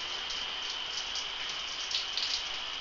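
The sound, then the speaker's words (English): A steady, continuous rush of running water, a bright hiss of spray like a shower, holding even in level throughout with a few slightly louder splashy swells and no voices. “I don't want to get out from under this water.”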